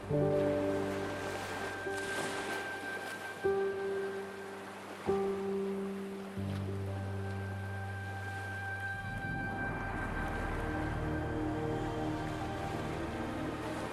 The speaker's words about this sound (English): Allow the sounds of the ocean to wash over you, bringing you closer to the infinite source of energy within you, allowing yourself to be in total peace with your surroundings.